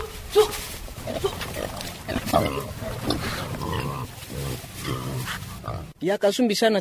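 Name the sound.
pigs grunting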